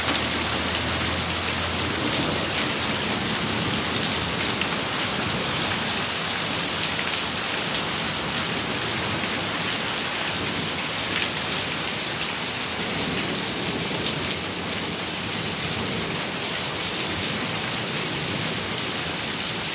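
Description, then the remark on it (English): Heavy rain and hail pour down in a dense, steady hiss during a summer storm, drumming hard on surfaces, with a low rolling rumble of thunder sitting faintly beneath it. No one speaks. “Constant rolling thunder though is pretty awesome.”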